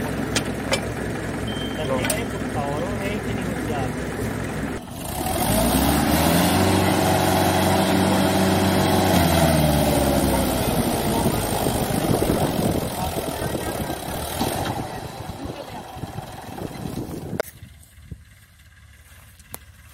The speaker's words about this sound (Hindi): ये देखिए किसान भाइयों, फार्म ट्रैक 45 न्यू मॉडल आते हुए, अब ये जो है अपनी ताकत के जौहर दिखाएगा।